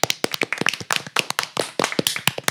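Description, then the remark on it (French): A small group seated around a table claps together at the end of the Quartier des Ondes radio show, a steady flurry of sharp, overlapping handclaps filling a couple of seconds with no talking. “Je pense qu'on peut tous applaudir autour de la table pour toute l'émission et les micro-trottoirs.”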